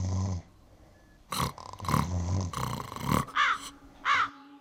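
Several harsh caws from a group of corvids up in the trees overlap in quick, uneven bursts, loud, with a few higher, shorter calls near the end.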